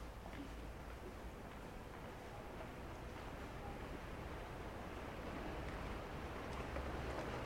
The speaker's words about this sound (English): The vaporettos, or water buses, pass us by as we stand bewildered in the darkness.